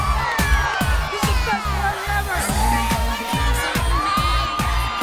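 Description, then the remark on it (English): A rowdy party crowd shouts and cheers wildly, voices overlapping, over a steady pounding bass beat from party music. “As everyone gets wild”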